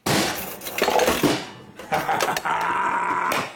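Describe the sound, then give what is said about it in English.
A vending machine that has swallowed money is struck with heavy metallic thumps, then coins clatter and rattle out in a bright, jangling tumble that runs loud and steady for a couple of seconds before stopping. “This vending machine has swallowed my money.”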